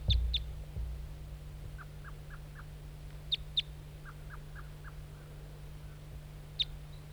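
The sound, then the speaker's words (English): A wild bird, a lone bright red male perched in a spruce tree near a net by a decoy, calls: sharp, high chip notes in pairs, interspersed with two short runs of four or five softer, lower toop notes, over a steady low hum. “Wild bird, back to the decoy.”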